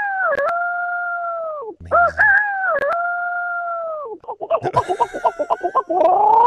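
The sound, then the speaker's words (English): A man's voice imitates a rooster crowing in the morning, with long sustained wavering calls, then a rapid series of choppy clucking bursts before a final rising crow, loud with no talking. “And then when I pass people, I just do like a chicken in the morning.”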